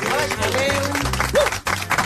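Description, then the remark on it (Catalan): Sustained audience applause for Desiree Vilalobede, Laura Fa and Sílvia Soler, a dense, steady clatter of many hands clapping together, with some voices calling out over it and a brief dip near the end. “Escolta, moltíssimes gràcies, un aplaudiment per Desiree Vilalobede, Laura Fa i Sílvia Soler.”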